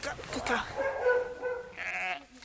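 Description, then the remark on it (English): Sheep bleating during lambing: a few wavering, quavering bleats run together over a couple of seconds, fairly loud against a soft background. “You can't tell a sheep that it's only allowed to give birth in daylight.”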